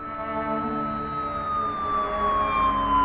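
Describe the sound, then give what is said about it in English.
A police car siren wails loudly, holding one steady, piercing tone that slowly slides down in pitch over a few seconds, with a low rumble of traffic beneath and no voices. “The closest patrol car, at the Tim Hortons on Saint Joseph, got to the Place d'Orleans Shopping Center Scotiabank entrance in minutes.”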